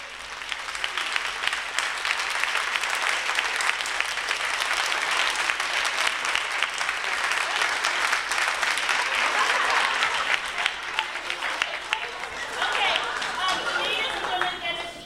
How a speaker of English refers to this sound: Can we all just give them a big thank you and a round of applause? Woo!